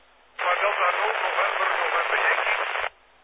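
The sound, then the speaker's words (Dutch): A weak radio transmission from a station checking in to a radio net, buried under a steady, loud burst of static hiss that starts abruptly, lasts about two and a half seconds, then cuts off. “Was een beetje in de ruis in elk geval.”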